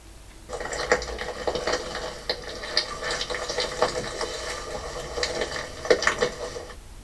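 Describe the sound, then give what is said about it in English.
Plastic crunches and crackles inside the belly of a mutton bird, a seabird from Lord Howe Island, a steady run of dry, brittle crinkling with sharper crackles popping up irregularly throughout, heard on its own with no voices. “the mutton birds have become so full of plastic, their bellies crunch and crackle with the sound of it”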